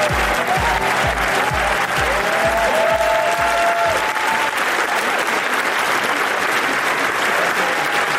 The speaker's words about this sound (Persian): قهرمان مورد تشویق گسترده تماشاگران قرار گرفت.